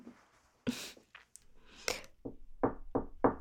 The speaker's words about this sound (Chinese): 啊，有人敲门，是不是你女朋友来了？